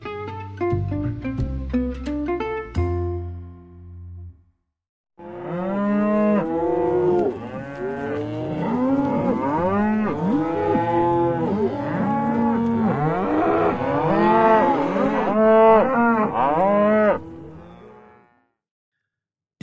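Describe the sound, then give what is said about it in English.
A brief burst of plucked, musical tones gives way to a loud, dense chorus of cattle mooing, many overlapping lowing calls rising and falling continuously for about twelve seconds before stopping. “So I have to go find my own moo now.”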